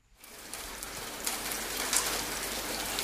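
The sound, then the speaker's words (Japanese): Steady rainy-season rain falls on Yatsuyama in a dense, even hiss, with scattered drops pattering on a surface. It starts after a brief silence and holds at a constant, moderate level with no voices. “雨の季節は八つ山もしっとり濡れて、人々は田植えに大忙しだ。”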